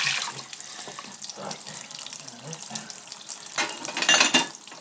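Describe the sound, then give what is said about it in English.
A hot tap runs lukewarm water for washing, steadily with a broad, hissing splash, fairly loud, swelling briefly toward the end as the flow strengthens or hits the sink. “Warm with water, that is not warm. It's lukewarm, but not warm.”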